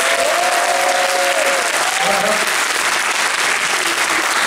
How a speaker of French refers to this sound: Donc Arcadia Events, c'est grâce à eux qu'on fait venir tous ces acteurs. Donc vous pouvez quand même les applaudir.